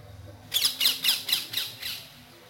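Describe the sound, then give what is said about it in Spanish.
A green parakeet squawks in a rapid series of about six harsh, shrill calls, loud, with no voices over them, then the squawking trails off into quiet background. “Mira, ¿viste la cotorra esa?”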